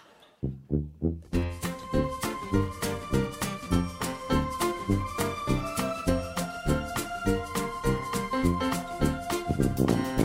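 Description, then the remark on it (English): Bright sleigh bells jingle in a steady, driving rhythm over an upbeat Christmas holiday song backing with thumping beats, starting after a brief quiet moment and continuing loudly throughout. “I love snow and I love sleigh bells.”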